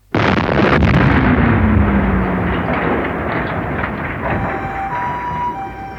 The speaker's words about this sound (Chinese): 午後0時45分ごろ、東京丸の内の三菱重工ビル玄関付近で突然大爆発が起きた。